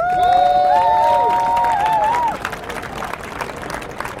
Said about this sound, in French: Donc … qui est ici présent et le cœur debout, vous pouvez les applaudir.